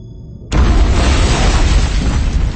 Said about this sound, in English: The explosion was deafening, shattering, assaulting her body and mind and senses, and she felt herself thrown around like a snowflake in a storm.